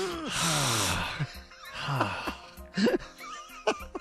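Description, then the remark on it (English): A person makes a sharp, hissing suck-in of breath, like someone who has just stubbed a toe, followed by a few short strained vocal sounds and breathy gasps. “You kind of sort of like a suck in and hiss.”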